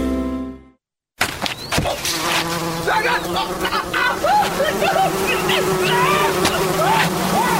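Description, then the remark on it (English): After a short tone and a moment of silence, a dense swarm of wasps around a nest buzzes loudly and continuously, many overlapping drones rising and falling in pitch. “Spending 4 hours in casualty because you stumbled into a wasp nest is not a funny way to spend a summer's evening.”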